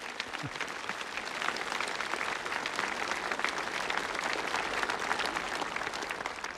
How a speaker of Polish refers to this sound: Pragnę, niech wybrzmią oklaski dla Asnyka.